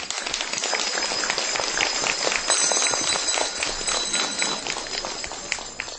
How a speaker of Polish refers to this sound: Tymi słowami z wielką radością, uśmiechem na twarzy, miłością w sercu witamy i pozdrawiamy wszystkich widzów telewizji Trwam i słuchaczy Radia Maryja. Uczynimy to, kochani, gorącymi oklaskami.